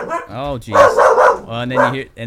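A dog, Evie, barks at someone coming in, letting out a few loud, tonal barks and yips in quick succession, with a drawn-out whining quality between bursts.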